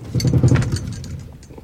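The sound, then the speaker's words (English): A table rattles in a loud, low, juddering clatter, busiest in the first half second and then easing into a softer, uneven rumble that tapers off. “Start with a little table rattling.”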